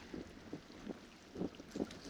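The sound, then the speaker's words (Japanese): A soft sea breeze blows steadily by the shore, its low rushing hiss swelling in a few gentle gusts that buffet the microphone. No one speaks. “いいよね、潮風。”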